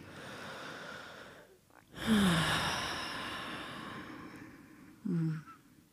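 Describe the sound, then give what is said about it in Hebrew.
A deep, audible breath drawn in and slowly released, taken together as a short breathing pause, followed by a shorter, softer exhale a few seconds later; no talking. “שנשמע ביחד? כן, ניקח רגע נשימה.”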